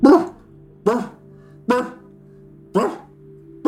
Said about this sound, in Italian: Il cane inizia ad abbaiare contro una parete.